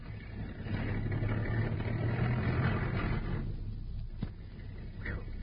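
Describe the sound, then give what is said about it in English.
A car engine idles with a steady low rumble and a faint hum as the car backs out at midnight, holding level throughout, with a single short click partway through. “By Jove, they're backing out.”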